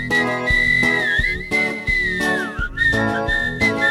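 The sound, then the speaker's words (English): A clear, melodic whistle carries a bouncy tune over a steady musical backing with a regular beat, the whistled line sliding and bending between notes, loud. “Well, have you ever heard a walrus whistle?”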